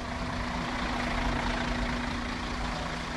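A bus engine idles steadily, a continuous low rumble with a constant hum, filling the short stretch without pause and with no voices, as the bus carries a North American seminary team heading off.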